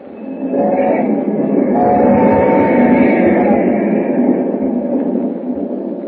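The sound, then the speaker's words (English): A train roars steadily along the tracks at night, a loud continuous roar with deep low-end rumble and faint metallic tonal whines riding on top, sustained without pause throughout. “As the train roars into the night, he and Hu Ling talk softly.”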